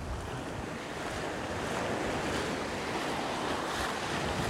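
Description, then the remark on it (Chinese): Ocean waves breaking on a shore make a steady, loud rushing roar that swells slightly partway through, with some wind buffeting mixed in and no voices. “老二在和海浪奔跑，说你追不上我，你追不上我，你追不上我。”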